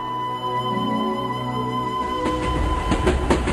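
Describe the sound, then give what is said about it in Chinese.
A train travelling back to Yorkshire rumbles along with a steady droning hum, then a series of sharp rhythmic clacks from the wheels on the rails comes in, loud. No voices. “当他坐在火车里，他发现十年来他第一次想着儿子。”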